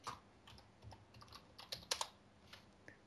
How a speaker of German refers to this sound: Tippen.